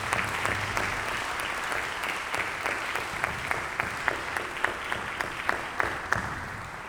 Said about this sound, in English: So I would love to do that now, to offer a big round of applause for the Iowa Arts Council for helping us with this.